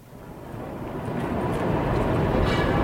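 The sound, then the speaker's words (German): A steady, dense rumble of rolling S-Bahn, U-Bahn and tram trains and city traffic of motorcycles, bicycles, cars and trucks builds slightly in volume, with a continuous low rattle, faint higher squeaks and honks, no voices. “Das rollt und rattert, quietscht und hupt. Alles ist in Bewegung. S-Bahn, U-Bahn, die Straßenbahn, Motorräder, Fahrräder, Autos, Laster.”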